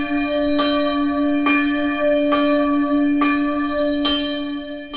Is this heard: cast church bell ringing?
yes